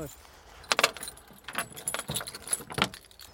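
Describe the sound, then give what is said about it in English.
A bunch of keys for getting into a building jangles in several quick, bright metallic bursts, with faint background noise and a hint of voices. “Aye, we've got the keys.”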